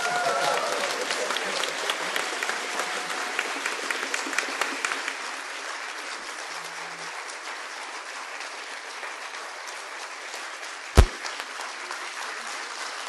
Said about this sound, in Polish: Ja jestem bardzo zestresowany i mam taką prośbę, jakbym mógł prosić o brawa na początek, dobrze?